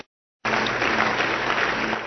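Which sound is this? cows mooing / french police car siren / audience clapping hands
audience clapping hands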